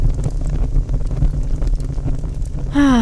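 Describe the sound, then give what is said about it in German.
Wood crackles and creaks in a fireplace, a steady run of sharp pops and snaps over a low rumble, then a brief tonal whine cuts in at the very end. “Es knistert und knarzt das Holz im Feuer.”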